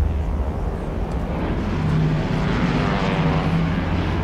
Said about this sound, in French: L'avion fait un virage à 90 degrés et met le cap vers le nord pour entamer sa descente vers ce qu'il pense être l'aéroport de Santiago.